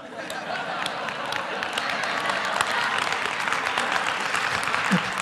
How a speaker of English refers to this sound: Why are you clapping? That's cheating.